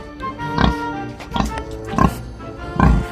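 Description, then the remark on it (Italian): A pig grunts and oinks four times in short, snorting bursts spaced about a second apart, fairly loud over a faint steady background. “Ma arrivò il maiale e se lo mangiò.”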